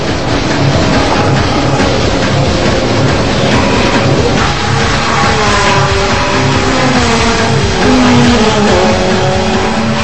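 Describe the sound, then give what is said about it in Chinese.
Loud engines of a motorcycle and a car roar and rev throughout as they race, their pitch climbing and dropping, with a dense mechanical rumble underneath and no one speaking. “大灰狼一看甩不掉小熊，就一边开车一边扭着脖子朝他们大喊大叫起来”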